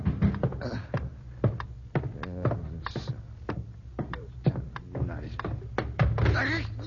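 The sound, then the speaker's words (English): Someone stumbles into a chair in the dark while hurrying downstairs at night to answer a pounding at the door: a rapid, uneven series of thuds and knocks, like furniture bumping and scraping, with muffled vocal sounds mixed in. “Rat, that chair got no business of being here.”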